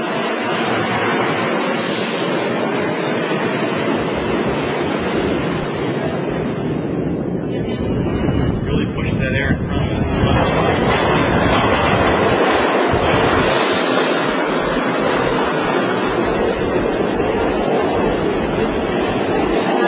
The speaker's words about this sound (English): We're going to connect with the F train and head uptown to Midtown, Grace Plaza.